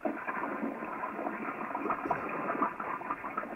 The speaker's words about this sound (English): I do not ask him to flush the toilet.